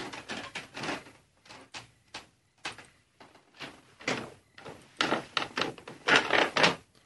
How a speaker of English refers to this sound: My house is just as creaky as this.